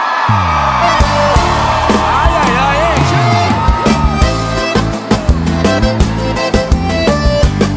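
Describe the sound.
A loud crowd whoops and cheers, voices shouting over one another, while sharp rhythmic claps grow steadier and more frequent toward the end.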